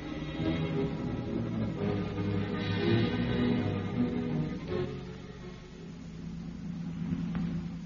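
A car engine hums steadily as the vehicle drives along an open road, a continuous low rumble with slight shifts in pitch as it accelerates, moderately loud throughout.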